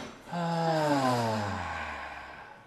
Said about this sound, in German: Und ihr dürft zu Hause super gerne mitmachen. Wir atmen nur gemeinsam ein und dann durch den Mund aus.